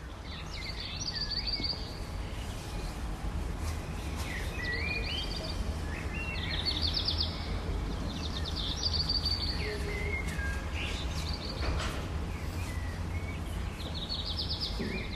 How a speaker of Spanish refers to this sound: Esto es un amanecer y unos pájaros, obvio. Esto es un amanecer y unos pájaros, los primeros coches se oyen de fondo, las 5:45 de la mañana, esos últimos momentos de la noche de San Juan y primeros rayos de luz del día de San Juan.